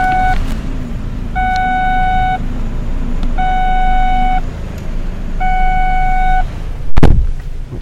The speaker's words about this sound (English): Me opening the door so I could see how close I was to the curb, and a car warning me, oh, you're driving with the door open. I know I'm driving with the door open.